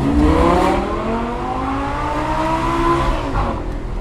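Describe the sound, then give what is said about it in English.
A fast car engine roars and revs up loudly, its pitch climbing steadily as it accelerates, with a gritty rumble underneath and no voices. “I think I'd be a little frightened going in a car that fast.”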